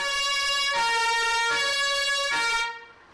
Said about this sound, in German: Wenn in Neuendorf die Sirene schrillt, dann kommen nur noch die Resttruppen zusammen. Und auch die nur mit Mühe.